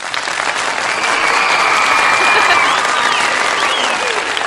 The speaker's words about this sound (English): I'm not sure what's worse, the fact that it's obviously fake applause or that it doesn't work when you want it to work.